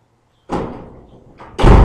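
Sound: door opening and closing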